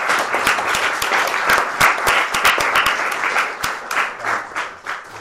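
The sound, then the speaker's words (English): A crowd applauds steadily for about five seconds, many hands clapping in a dense, crackling wash with a few sharper individual claps standing out, fairly loud throughout. “I think thank you need to applaud you.”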